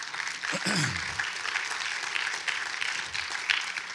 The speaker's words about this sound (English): Now, I want to reassure you that we have a security team that is here in place. Somebody asked me one time, no, you can applaud that.